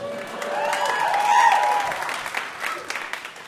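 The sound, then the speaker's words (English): A crowd claps steadily for about three seconds, the dense patter swelling in the middle and then thinning out, with a few vocal whoops rising above the clapping. “Pause for applause.”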